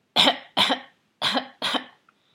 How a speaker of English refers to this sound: This was the only time Diesel would bark. Well, except when the doorbell rang. Although when he got older, his bark at the back door turned into more of what my mom called a cough.